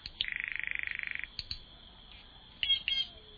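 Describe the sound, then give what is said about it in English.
A green jay, a bird feathered in green, yellow and blue, gives a rapid, buzzy rattling call followed by a few sharp, harsh notes, clear with no voices present, in the Rio Grande Valley of Texas on the border with Mexico. “A green jay, the very picture of a tropical bird feathered in green, yellow, and blue, offers its varied voices.”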